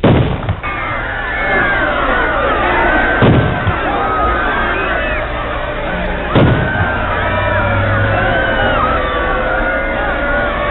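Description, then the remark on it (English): A large crowd screams and shrieks in panic, many overlapping voices rising and falling continuously and loudly, with two sharp, heavy bangs punching through the din, at a street corner below an underpass on November 22, 1963, as the President of the United States is shot. “The screaming, panicked crowds, the screeching, speeding sirens told the puzzled onlookers that what they saw was true.”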